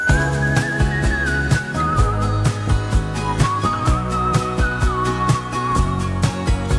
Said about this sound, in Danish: der fløjter i den her sang